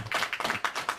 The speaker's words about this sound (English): And the crowd goes wild. I love it. Love it.